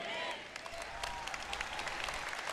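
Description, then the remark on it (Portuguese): Scattered, irregular hand clapping from an audience, including a woman at the front, steady and moderately loud, with a few voices calling out in the background. “Ah, tem uma senhora aqui na frente que bate palmas quando eu falo essas coisas, sabe?”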